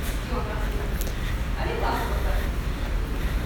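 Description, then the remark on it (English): Indistinct voices murmur, their words unclear, echoing off the walls of a hall the listener is walking through, with a steady low background hum throughout. “I can hear voices that I cannot make out that echo off the walls of this hall that I'm walking through.”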